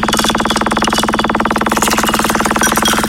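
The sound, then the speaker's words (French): A radio RVM prize wheel spins, giving off a rapid, steady run of loud mechanical clicks that rattle on evenly with no voices over them. “Le principe est simple, c'est que je vais lancer donc justement cette roue en action,”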